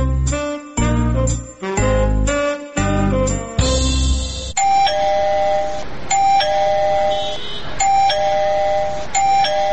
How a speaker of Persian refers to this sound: زنه چی شده که باز دروازه را زنگ زده؟